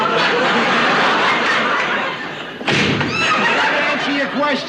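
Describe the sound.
A door slams shut once, a sharp, loud bang midway through, surrounded by a crowd's laughter and murmuring voices that swell right after the impact.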